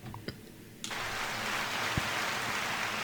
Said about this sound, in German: Ja, danke für diesen Applaus. Man könnte denken, es ist heute eine Live-Show.